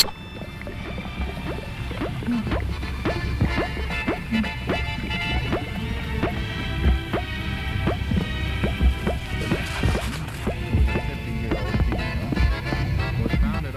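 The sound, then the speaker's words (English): A succussion splash from an obstructed stomach: repeated wet sloshing and splashing sounds, steady, recurring in a loose rhythm throughout with no voices. “succussion splash and is frequently found with pyloric obstruction.”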